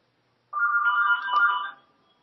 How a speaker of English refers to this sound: I think the phone is ringing.